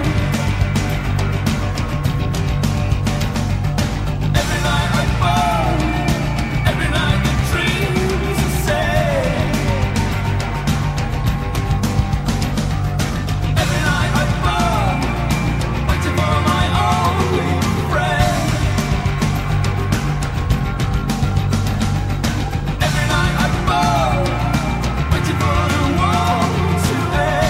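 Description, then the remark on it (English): A loud, dense rock song from the 1994 motion picture soundtrack of The Crow plays continuously, with a driving full-band mix of guitars and drums and a sung vocal melody riding on top, steady in volume throughout. “It is a motion picture soundtrack from The Crow.”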